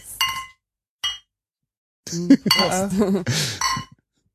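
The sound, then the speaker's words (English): Beer glasses of Jever clink together twice in a toast in Berlin, a bright ringing chink followed by a shorter second tap, then people start talking. “So, okay. Cheers.”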